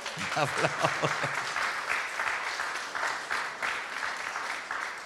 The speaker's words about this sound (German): Amen. Wow. Applaus.